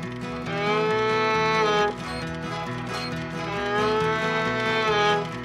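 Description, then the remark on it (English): A voice imitates an old cow's moo with two long, drawn-out, reedy tones, loud, separated by a brief pause, with a low steady hum underneath. “That was an old cow.”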